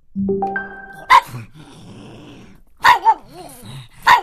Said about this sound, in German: So könnte es heute in manchen Büros klingen, denn heute heißt es Kollege Hund.